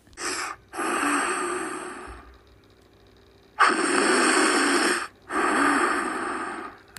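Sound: voice imitating snoring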